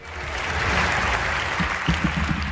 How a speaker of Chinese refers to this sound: 这句话说完，她脸上掠过了一丝得意的神情，随即等待着台下更加热烈的掌声。